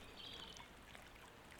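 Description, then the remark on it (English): Someone wading into a lake with their clothes on, heard as a soft, continuous wash and slosh of water with a few faint trickling accents, quiet and steady, with no voices. “You're not seriously getting in the water, are you?”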